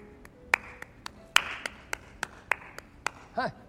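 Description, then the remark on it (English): A man sitting on a stage claps a dozen sharp, crisp times with a single pair of hands in a loose, uneven rhythm. A brief wavering tone rises at the very end. “He sits on the stage and claps.”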